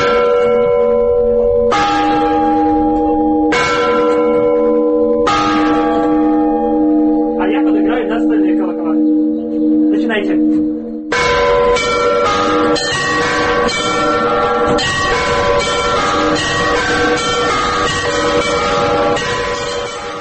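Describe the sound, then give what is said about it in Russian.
Large church bells ring loudly, first a few heavy strikes whose deep tones linger and overlap, then a full, busy peal of many bells clanging together in a rapid pattern. “Послушать колокольный звон собираются люди.”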